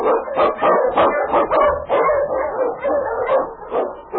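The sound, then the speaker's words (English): Sled dogs bark loudly and rapidly, a dense volley of about ten sharp yips and barks overlapping one another, with no voices and hardly a pause; the husky is King, the Wonder Dog of the Challenge of the Yukon. “The Wonder Dog King, swiftest and strongest of Eskimo League dogs, places a trail through storm and snow for Sergeant Preston as he meets the Challenge of the Yukon.”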